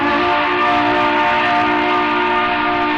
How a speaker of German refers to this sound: Seitdem also klingt es im Hafenkonzert so, wie es auf Schiffen und im Hafen klingt. Da tuten die Typhone.